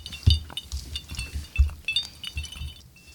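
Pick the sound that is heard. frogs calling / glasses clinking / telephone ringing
glasses clinking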